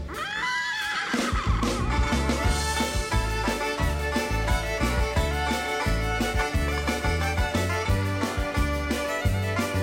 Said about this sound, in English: And I got a little horse, kick him in the rear, he goes.